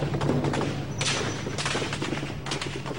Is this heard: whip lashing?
no